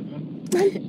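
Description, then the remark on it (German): A steady, muffled low rumble of a car in motion comes through a narrow phone line, with a brief brighter burst of noise and a faint tone midway. “Du bist gerade im Auto unterwegs, oder? Ich höre es rauschen.”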